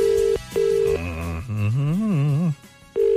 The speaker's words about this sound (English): It's ringing.